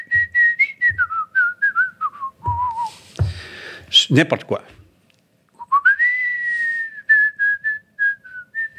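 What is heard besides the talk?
person whistling a tune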